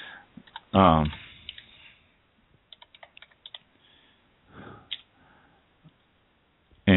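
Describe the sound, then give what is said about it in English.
A quick run of crisp key taps, about ten clicks in an uneven rhythm, as someone types in a phone number. A short burst of voice comes just before, with faint murmuring afterward. “I started typing the wrong one.”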